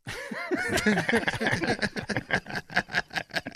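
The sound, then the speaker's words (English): A person's voice imitates a bird's caw, with squawky rising and falling calls that break into a quick run of short, rhythmic pulses, fairly loud. “I think you got to go with a bird. Yeah. A little bit of a caw-caw.”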